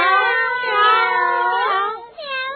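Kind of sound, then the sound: animal, cat meowing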